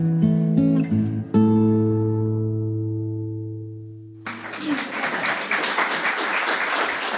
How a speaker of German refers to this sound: Das ist auch schön, wenn die Musik noch mal Applaus kriegt. Zu Recht.